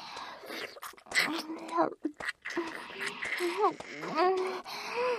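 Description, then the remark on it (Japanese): Heavy, excited breathing, with quick ragged breaths and soft voiced moans rising and falling over about five seconds, and no clear words spoken. “息遣いが荒くなってきています。だいぶ興奮しているのですね。”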